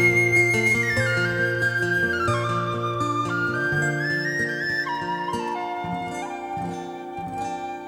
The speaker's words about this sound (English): on the whistle there. Thank you very much.